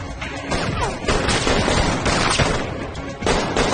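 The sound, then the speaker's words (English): A rapid flurry of gunfire during a chase, with dense overlapping shots cracking loudly and continuously, broad and harsh across the whole stretch, with a brief lull near the end before another burst. “In a flurry of gunfire, Gabriel pursues Jacob.”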